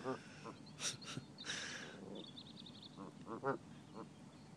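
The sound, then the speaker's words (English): Two big geese and ducks walk past, the ducks quacking repeatedly at close range with a few honks from the geese mixed in, a busy cluster of short calls and some rustling in between. “Got two big geese and ducks just walking past me in front of me.”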